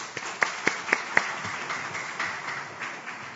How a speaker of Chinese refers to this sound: 所以我们要感谢他们，这样，所以我们鼓掌来感谢他们。